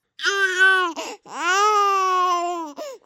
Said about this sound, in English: Those are kids crying. Persistent or excessive crying in kids, I guess, or adults for that matter, is one of the most distressing problems.